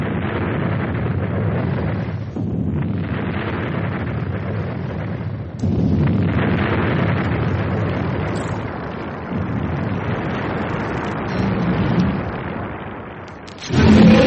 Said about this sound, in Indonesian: Roket yang dilemparkan itu segera meledak pada jarak yang dekat dengan matahari.